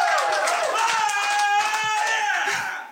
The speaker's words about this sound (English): What? Eat cake. Is that all I have to say to get applause?